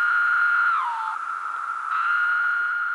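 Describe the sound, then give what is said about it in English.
A periodical cicada (Magicicada septendecim, a large species) call: a loud, steady, high droning whine that slurs downward in pitch partway through, then returns to its sustained buzz, with no voices. “The large species of cicada, Magus cicada septendecim, it's the one that has the call that sometimes are referred to as sounding like the word.”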